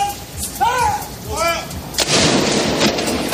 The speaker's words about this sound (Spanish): También en la de San Pablo, donde se ha celebrado la misa en su honor, y en total 96 cañonazos en distintos puntos por cada año de su vida.